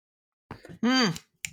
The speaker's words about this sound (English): I'm snapping. I'm We're clapping. Snapping. Clapping.